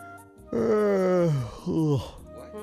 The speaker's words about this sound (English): What? Hey, sorry about that. I guess something about you makes me want to sleep with you. Oh my god, yawning. So as soon as I talked to you, I was like ready to sleep.